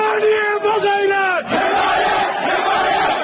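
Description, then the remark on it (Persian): A crowd of people in Mahabad shouts for support in a loud, sustained chant after dark amid clashes with security forces, voices rising and falling in drawn-out cries, then a brief dip before a dense roar of many voices continues. “این فریاد حمایت طلبی مردم مهاباد.”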